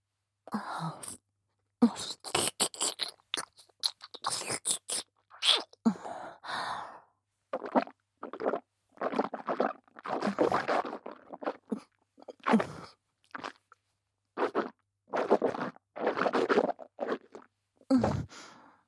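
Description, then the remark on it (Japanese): Wet, smacking chewing and mouth sounds repeat in irregular bursts for about twenty seconds, with soft breathy sighs between them and no talking. “恐れ入りますが、咀嚼音の確認をお願いします。”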